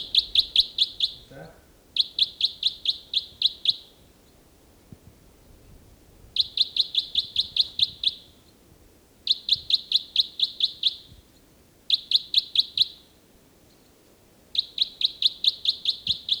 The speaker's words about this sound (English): Start recording again, bird 318. He's in robust song.